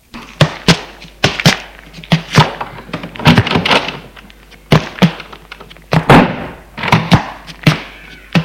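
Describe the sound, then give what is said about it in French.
Doors being handled and opened: a rapid, irregular run of heavy wooden thunks and knocks, some clustered in quick bursts, loud and sharp with no voices. “D'ouvrir les portes.”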